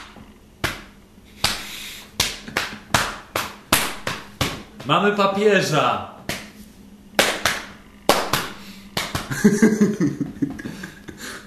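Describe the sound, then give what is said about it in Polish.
A carpet beater whacks loudly over and over in an uneven, brisk rhythm of sharp slaps, while a voice shouts briefly over the strikes midway and again near the end. “Tak, jak ludzie mieli syreny, mieli dzwony, to my mamy trzepaczki do dywanów.”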